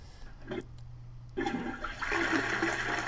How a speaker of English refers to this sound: All right, so it's a nice, good flushing sound.